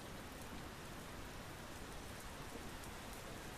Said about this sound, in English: We're going to soak in this rain for a bit here. Oh God. There's the sound of mighty rain.